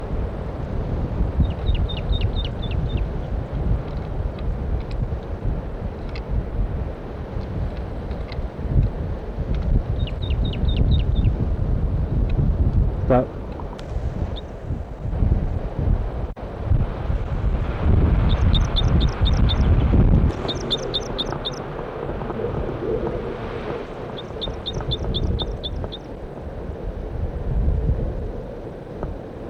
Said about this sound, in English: Male in song, repeating those two phrases many times